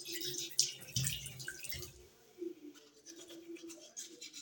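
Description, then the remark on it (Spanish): A tap runs steadily, wasting a lot of water, a continuous watery hiss, while brisk scrubbing like a toothbrush scratches over it in the first half before easing off. “Así está mal, porque estamos desperdiciando mucha agua. La opción correcta es esta.”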